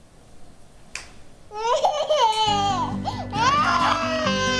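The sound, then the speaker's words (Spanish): A baby girl cries loudly, her wavering wails rising and falling almost without pause, while a low steady hum runs underneath through the second half. “¿No ves que está llorando?”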